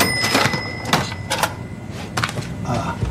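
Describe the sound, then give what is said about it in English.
A cash register rings with a sustained bright tone while several sharp mechanical clacks and thumps sound, like keys being struck and the drawer sliding shut. “Oh, I'm just listening to the sound of the cash register. the ringing and the drawer closing.”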